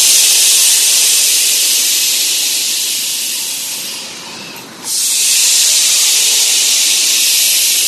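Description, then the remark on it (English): A loud, forceful hissing exhale made during a chi breathing exercise with eyes open, steady and breathy, fades briefly as the breath runs out, then a second long hiss starts right away and holds strong. No one speaks. “drawing the chi into the abdomen, contracting the chi in the abdomen, opening the chest, opening the eyes, and making a large hissing sound.”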